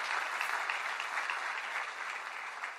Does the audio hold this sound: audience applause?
yes